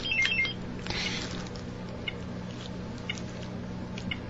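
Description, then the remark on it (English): A quiz timer goes off with a quick run of high electronic beeps at the very start, followed by a brief rustly burst and a steady low hum, with no one talking. “Absolutely got it on time. Just at the buzzer.”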